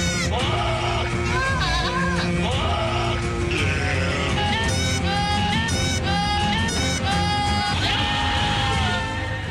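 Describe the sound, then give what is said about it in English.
Loud goat bleats carry a tune over dense, driving orchestral-style music in a theme song parody called the Goats of Thrones, the wavering cries stacked and repeated like a melody line throughout, with no talking. “Those are the Goats of Thrones.”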